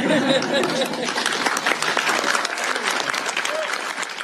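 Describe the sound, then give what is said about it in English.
People applaud steadily for several seconds after the signing of a bill, Nikki's law, in the state of Washington; dense overlapping claps at moderate volume, with a few faint voices mixed in beneath the clapping. “And having done so, everyone can applaud and bump elbows.”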